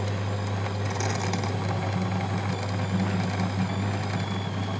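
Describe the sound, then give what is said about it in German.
A drill press runs with a steady, even hum and a strong low drone at a slow setting, with faint scraping and crackling on top as it bores on with a new drill bit without pause. “Wir dürfen jetzt, weil das eine Anschauung ist, können wir darauf verzichten und dann bohren wir mit dem neuen Bohrer weiter.”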